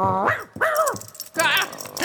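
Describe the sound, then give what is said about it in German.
A dog growls and snarls in three rough bursts with rising and falling tones, fairly loud, with no talking over it. “Dieser Köter ist ja auch da.”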